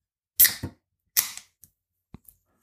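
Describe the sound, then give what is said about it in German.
A beer can is cracked open: a sharp pop with a short hiss, a second hissing snap about a second later, then a few faint little clicks. No one speaks. “Ihr hört eine Dose.”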